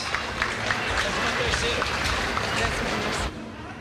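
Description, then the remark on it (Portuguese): A crowd at the final of the 39th Carijo da Canção Gaúcha song festival applauds a classified song with dense, steady clapping that stays loud for over three seconds, then cuts off abruptly. “Salva de palmas.”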